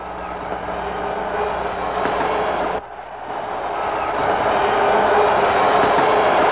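A dense, steady roar of a huge New Year's Eve crowd at midnight in Times Square, New York, as 1970 turned to 1971: loud and continuous, briefly dipping near the middle before swelling back up even fuller, with no single voice standing out.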